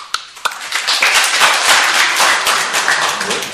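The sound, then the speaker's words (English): Several people clap their hands in front of the deities during devotional service, a quick, dense burst of sharp claps that builds into a sustained patter, like a small group clapping. “And Prabhupada says, you clap your hands in front of the deities. Clap.”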